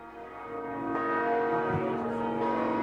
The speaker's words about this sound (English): The bells at the Basilica of St. Mary could be heard across downtown Minneapolis.